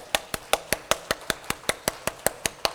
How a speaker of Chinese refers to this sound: 那我们在交通之前啊，我们也来欢迎一下好不好？就是啊你啊是这个第一次参加日间追求班的弟兄姊妹们哈、请你们站起来，我们啊。 鼓掌欢迎你们，阿们。